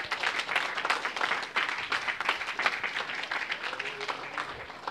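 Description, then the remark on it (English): A church audience applauds steadily, dense overlapping handclaps filling the whole stretch at a fairly loud, even level without any talking over it. “So y'all give yourself a hand clap.”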